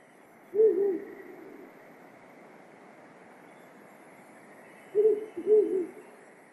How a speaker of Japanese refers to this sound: フクロウです。